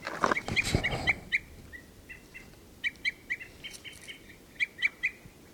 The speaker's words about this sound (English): Right. This is bird 384 here.